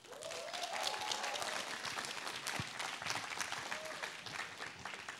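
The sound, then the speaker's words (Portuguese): A church audience claps steadily throughout to welcome a pastor about to speak, a dense, sustained wash of applause with a few faint whistles or cheers rising above it near the start and toward the end. “Recebam com uma salva de palmas.”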